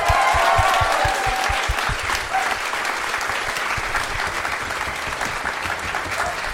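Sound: audience applause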